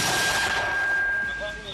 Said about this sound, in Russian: Затем они выпускают снаряды в направлении русских.